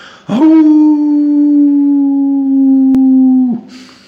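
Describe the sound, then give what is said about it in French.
A wolf lets out a single long, mournful, desperate howl that rises abruptly, holds a steady tone for about three seconds, then drops away. It is loud, with no talking over it. “Quand le loup l'entendit, il perdit courage, leva la tête, ouvra la gueule et se mit à hurler comme un désespéré.”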